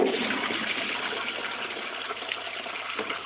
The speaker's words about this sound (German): Das war die Klospülung.